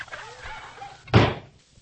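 A single heavy door slams shut with a loud, booming thud that quickly fades, following a stretch of faint, murmuring background noise.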